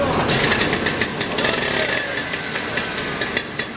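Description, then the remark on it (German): Rail track construction on a new railway section in Lucerne, where workers lay track on the base ballast and mill the rails to fit: a steady, loud machine drone with rapid, regular percussive strikes on top, like heavy tools grinding and hammering at the rails, continuing throughout. “Bauarbeiter verlegen Gleise auf dem Grundschotter und fräsen Schienenbitzen passend zu Weg.”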